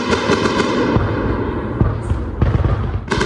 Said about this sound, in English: From our shelter in central Kyiv, we could feel the building shake and hear loud bangs as several strikes made impact.